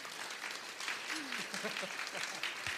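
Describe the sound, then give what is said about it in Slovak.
Sustained audience applause fills the whole stretch, a dense wash of many hands clapping at steady loudness, with a few faint voices and whoops rising briefly beneath it. “obrovský potlesk ešte prosím vás pre Mazanovcov”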